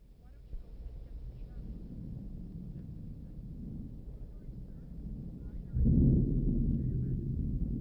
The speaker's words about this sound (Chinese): 马车备好时，天空黑云密布，闪电大风带来了雨。